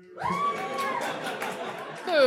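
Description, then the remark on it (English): A crowd lets out a sustained, low humming boo aimed at the host during a game where the crowd picks the winner by louder applause or boo. Many voices blend into one droning tone that holds for a couple of seconds and swells briefly at the end. “Yeah, I'm so glad that some of you, even though you wanted me to lose, couldn't help but give me a little low hum boo.”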